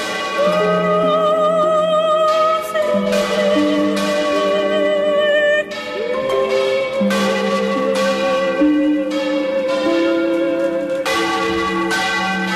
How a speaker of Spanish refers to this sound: Bueno, pues todo requiere de su mantenimiento y todo tiene sus necesidades, incluidas estas campanas precisamente que estamos escuchando.